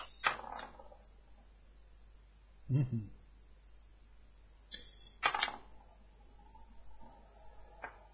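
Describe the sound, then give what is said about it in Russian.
A die is rolled on a hard surface: a few short clattering bursts separated by quiet gaps, with a dull thump partway through. Nobody speaks. “Давай-ка я кину кубик”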